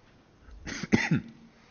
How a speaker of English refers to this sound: And the entire family picked up a cold on our vacation, so please bear with any coughing this morning.